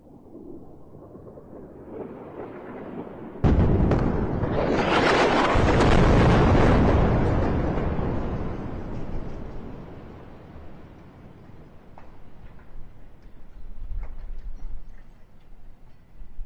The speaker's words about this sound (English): All right, so explosions in the night, bombardments as requested by Jordan.